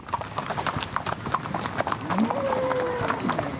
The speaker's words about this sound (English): Driving 450 head of cattle with about 30 horses is a tough job for most.